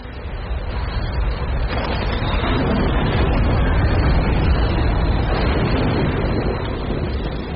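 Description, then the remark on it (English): A car engine is started and runs with a loud, steady rumble and a dense, noisy roar that fills the whole stretch, holding constant without a clear start or pause, and no one speaks. “This is the third car. More insects. Start the engine.”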